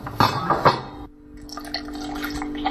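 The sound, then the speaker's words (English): Wine is poured into a glass: two loud glugs from the bottle, then a steadier trickle with a faint ringing tone as the glass fills. No voices. “Pour wine. Tok tok tok tok tok.”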